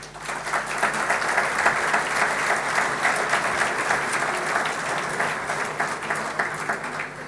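Sustained audience applause, a dense steady wash of many hands clapping at an even, fairly loud level for several seconds, with no voices standing out.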